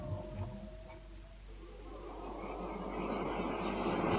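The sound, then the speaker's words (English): Railway station ambience: a low, steady rumble with brief tonal hums early on, then a broad hissing roar that swells and grows louder as a train draws near. “Will passengers holding reservations for the 11:40 Isle of Wight train please queue at the side of platform 11?”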